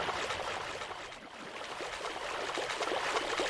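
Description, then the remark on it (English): Footsteps splash steadily through shallow swampy water in a video game as the character runs east into a very wet rainforest, a continuous wet sloshing with quick repeated splashes at a running pace, moderately loud, with no voices. “Just about to the very wet rainforest, you hear my tile change into the swampy water.”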